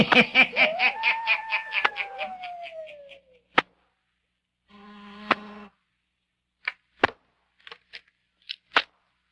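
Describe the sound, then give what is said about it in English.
A door buzzer at a spacious penthouse, pressed by someone standing outside the door, sounds twice: first a long, rasping buzz with a falling tone mixed in, then a shorter buzz. Several sharp clicks and knocks follow, and no one speaks. “He presses the buzzer again. Listen.”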